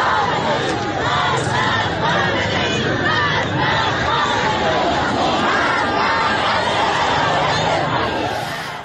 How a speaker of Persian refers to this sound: جمعیت پرشماری حضور دارند و شعارهای اعتراضی تندی هم علیه حکومت سر میدن. شهر آبدانان خب همون از جمله شهرهایی بود، یکی از کانونهای اعتراض. صدای هم داریم از این تصاویر بشنویم.